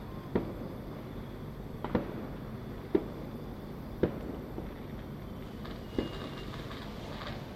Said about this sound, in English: recording one last time in Penang, as I am witnessing a bunch of fireworks in front of me. That's really pretty.